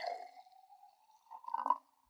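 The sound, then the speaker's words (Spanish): Water pours into a small glass with a steady, faintly rising trickle, then a brief louder splashing gurgle near the end before it stops. Fairly quiet, with no voices. “Pero ándale, tómate un vasito de agua y cuéntame qué ha sido de tu vida.”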